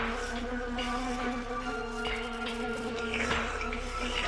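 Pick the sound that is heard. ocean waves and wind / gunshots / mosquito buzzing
mosquito buzzing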